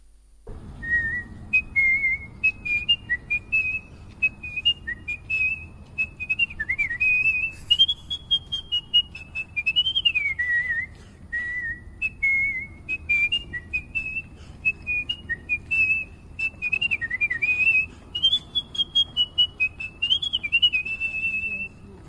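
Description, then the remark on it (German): A man whistles a lively, wandering melody for about twenty seconds, the clear tone rising and falling in quick phrases with short breaks between them, fairly loud over faint background hum. “Das war ein TikTok-Video, okay. wo der pfeift.”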